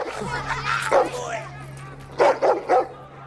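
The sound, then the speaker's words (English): A pimp's dog on the grubby streets of Whitechapel gives one sharp bark, pauses, then fires off a quick burst of three more loud barks over a low, steady background hum. “Dorian backs away from the pimp's dog.”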